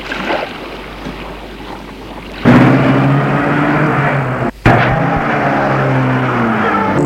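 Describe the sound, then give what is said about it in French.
A car engine kicks in after a couple of seconds of background rumble and runs steadily and loudly, with a brief cut midway, as the car pulls away to leave a property. No voices. “Et entre dans la voiture.”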